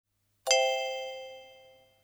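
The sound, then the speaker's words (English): A single bright chime rings out after a moment of silence, a clear metallic ding with steady overtones that slowly fades over about a second and a half. It is the page-turn cue in a reading of Pop-up Jungle by Fiona Watt. “When you hear this sound, turn the page.”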